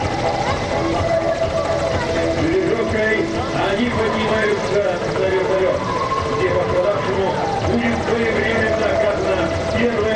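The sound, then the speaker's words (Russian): A Ka-27 helicopter flies out to a search area at the start of a rescue operation, its steady engine and rotor drone holding at a constant loud level throughout, with voices murmuring underneath the continuous mechanical roar. “Одновременно вертолет К-27 выходит в район поиска и начинается спасательная операция.”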